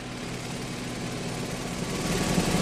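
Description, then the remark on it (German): A rescue helicopter's engine starts up for takeoff with a steady mechanical drone and whine that grows slightly louder, with a faint rhythmic thumping emerging near the end. No voices are heard. “Du bist also der, der die Verunglückten in Helikopter zieht.”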